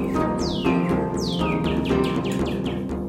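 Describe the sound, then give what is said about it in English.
A cardinal sings a series of clear, downslurred whistles, about four sweeping notes in a steady rhythm, bright, over a constant low tonal hum in the background. “Immediately, a small red bird flew out, singing with the joy of freedom, the happiness of life, and the return to her land, her people, to her father, the sun.”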